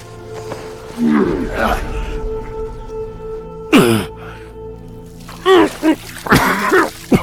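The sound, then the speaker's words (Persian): A person undergoing water torture to make them talk chokes, sputters and coughs in ragged bursts, with strained gasps and a sudden harsh rush of splashing water midway, fairly loud over a low steady hum. “اگه شلاق کافی نبود آب تو را به حرف میاره دوست دریایی. آب بیارید.”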